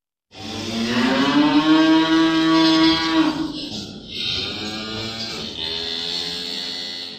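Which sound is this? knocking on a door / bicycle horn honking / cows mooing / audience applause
cows mooing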